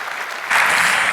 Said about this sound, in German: Bitte einen sehr herzlichen Applaus für die beiden.